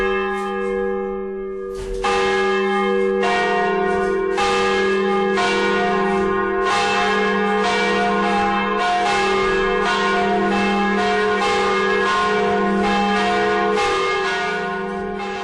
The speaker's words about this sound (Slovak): To sme mohli na kratučko počuť 3 zo 4 bobroveckých zvonov. Dúfam, že sme nevyplašili dedinčanov.